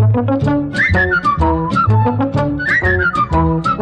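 A bright whistled jingle melody for radio station WABC, 770 on the dial, swoops up and then slides down in two matching phrases, riding loud over a full, bouncy instrumental backing with no talking.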